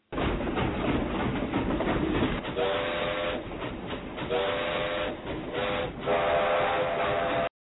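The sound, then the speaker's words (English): A train pulls out with a loud, steady mechanical rumble and hiss, while a whistle sounds in three drawn-out blasts over the noise; no one speaks. “Man, this train's just pulling out, man.”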